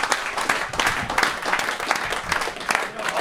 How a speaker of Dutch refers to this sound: Dus op een gegeven moment, ik zou toch een applaus willen vragen voor het bestuur en alle.